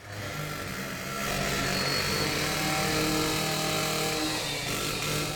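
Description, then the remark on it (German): Continuous mechanical construction racket from renovation of the flat roofs of a parsonage and parish hall in Bergisch Gladbach-Refrath, Germany, with power tools whining and rumbling steadily over a low engine-like drone, fairly loud, growing fuller after the first second with no voices. “Bauradau.”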